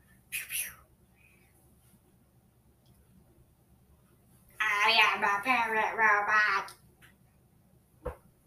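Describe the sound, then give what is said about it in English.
A human voice mimics a parrot with about two seconds of loud, warbling squawky chatter, following a brief sharp noise and near-silence, with a single click shortly after. “No, since when are you a parrot robot?”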